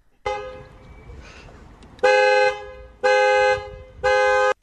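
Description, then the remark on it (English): A car horn in Dundalk gives one long, steady blast, then three short, evenly spaced honks, each loud and blaring, with no one talking. “And loads of you have been honking your horns all over the northeast this afternoon.”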